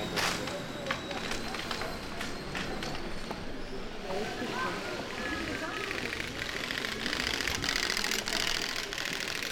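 A bicycle wheel with clothespins on its spokes clatters out a rapid, continuous buzzing rattle, like a small motor, holding steady and fairly loud from start to finish.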